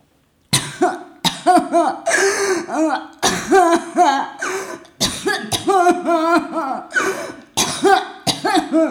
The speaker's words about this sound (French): Les pleurs vont se mélanger à la toux.